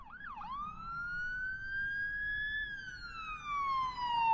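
An ambulance siren wails steadily with a long, rising-and-falling tone, loud, growing louder toward the end as the ambulance approaches over low road rumble.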